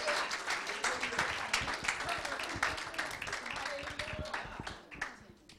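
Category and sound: crowd, audience clapping hands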